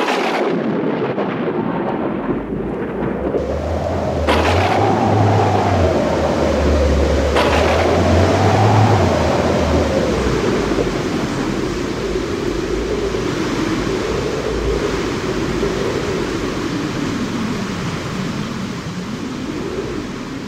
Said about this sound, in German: Eines Abends zog ein furchtbares Wetter auf. Es blitzte und donnerte, der Regen stürzte herab und es war ganz entsetzlich.